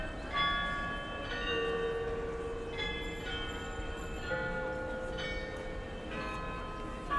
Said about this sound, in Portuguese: verdadeiro espetáculo acontece um pouco mais acima, às 11 horas, ao meio-dia e no verão, também às 17 horas, o carrilhão ganha vida. 43 sinos, 32 figuras. Um momento em que toda a praça parece parar.